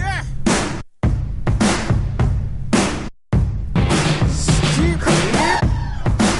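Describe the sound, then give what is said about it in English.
A loud English grime rap track plays, with a dense, punchy beat and a rapped vocal. The music cuts out briefly twice before slamming back in. “He's a kind of grime rap artist from England, and the song was called...”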